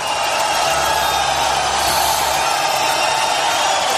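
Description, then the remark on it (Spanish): A large crowd boos and whistles at Spanish head of government Mariano Rajoy in 2015, a dense, continuous roar of jeers that stays loud and steady throughout, with no single voice standing out. “En esta ocasión, quien recibía esos abucheos era Mariano Rajoy.”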